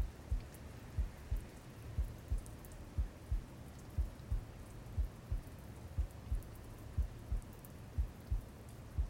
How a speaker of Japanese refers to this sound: マスターの体内でもこうして心臓の鼓動が絶え間なく続いているのです。私と異なり、生身の人間ですから当然ですね。